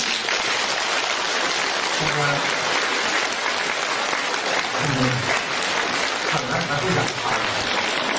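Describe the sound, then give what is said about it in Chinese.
Sustained audience applause fills the whole stretch, a dense, steady wash of many hands clapping at an even loudness, with a few low murmuring tones poking through now and then. “这鼓掌没办法”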